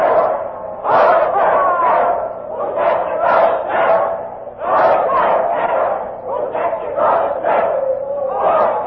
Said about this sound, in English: And now the crowd is chanting a doggerel. Poor Jack Ketch, whose neck you're going to stretch. Listen to them for a minute.